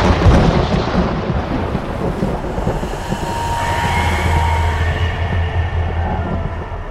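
A deep, continuous rumbling roar of a storm approaching from afar, broad and heavy, swelling slightly midway with a low sustained drone underneath; as it nears, the sky clouds over and the wind bends tree trunks to the ground. No voices.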